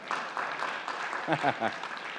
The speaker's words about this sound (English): This is when you clap. You say, yay.